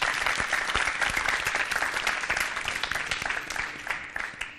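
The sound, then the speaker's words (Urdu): A studio audience on a cooking competition show claps steadily for several seconds to welcome Team A, a dense, continuous burst of applause that holds fairly loud and eases off slightly toward the end. “Team اے سے درخواست کروں گی یہاں تشریف لائیں، ان کے استقبال کے لیے تالیاں ہونی چاہیے.”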